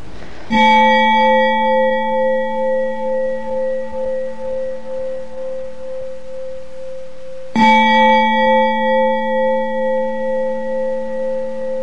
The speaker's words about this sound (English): Try to have a bell with a wonderful sound, and you might invite members in the family or a friend to come into that to practice breathing, smiling, having a cup of tea in mindfulness, the best moment.